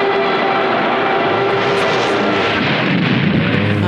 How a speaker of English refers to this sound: Crash. And then that's her bringing the show to a screeching halt. Got it. Oh, okay. Although it's when I like heard a, it, a tight turn actually. But so it's a plane crashing and then tires to a screeching halt.